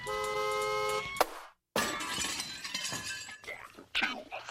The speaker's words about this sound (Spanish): No, no te asustes. Si es la primera vez que escuchas la bocina, no pasa nada. Es solo una señal de aviso. Si suena, es que llega el momento para desconectar y reír. La bocina lleva sonando en Onda Madrid desde el año 2004.